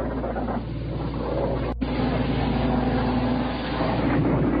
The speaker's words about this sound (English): Here we go again, another plane's come over.